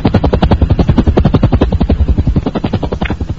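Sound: aircraft flying overhead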